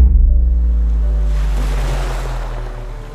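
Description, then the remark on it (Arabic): Ocean waves break on a beach in strong midday sun, with people sitting, playing and swimming, a deep steady rumble with one wave swelling into a loud rushing wash before slowly easing off. No voices are heard. “فجأة بقيت على شط البحر.”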